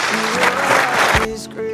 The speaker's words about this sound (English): Can we give our lovely ladies a big round of applause? Thank you.